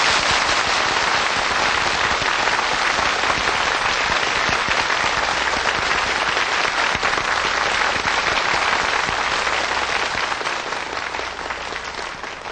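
A large audience applauds steadily and loudly to welcome Supreme Master Ching Hai to give a teaching, a dense rush of many hands clapping that holds for about twelve seconds, easing only slightly at the end, with no voices over it.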